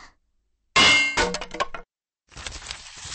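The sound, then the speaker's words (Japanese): A hammer strikes a sturdy wooden box: one loud, ringing clang, then a quick run of sharp knocks, a brief pause, and another rattling burst of blows. No one speaks. “トンカチを持つ手に強く力を込めて。”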